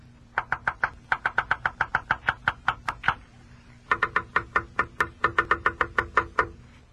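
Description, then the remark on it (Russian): A woodpecker tapping on wood: two runs of about a dozen sharp, evenly spaced knocks each, separated by a brief pause, fairly loud and with no voices. “Это моя дятлиха мне стучит.”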